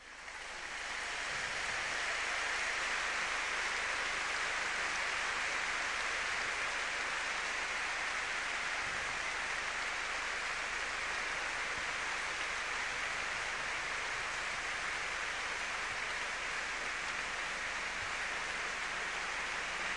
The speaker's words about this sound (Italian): allora noi tacciamo e questo vi offriamo l'audio dello Stadio Olimpico, osserviamo anche noi questo minuto di silenzio in memoria delle vittime del terremoto che martedì notte ha devastato il centro Italia.